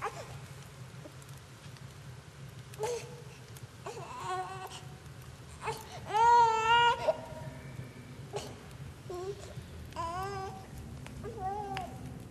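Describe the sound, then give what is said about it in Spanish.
A baby cries in repeated wailing bursts over a low background hum, with short pauses between sobs and the loudest, most strained wail near the middle. “Por más que intento consolarle, no para.”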